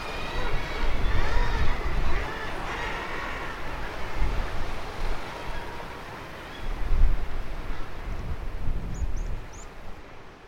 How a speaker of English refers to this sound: So we've reached the top of the hill, and the lighthouse building is in front of us now, painted white, the light turning gently above it. Quite a windy spot this,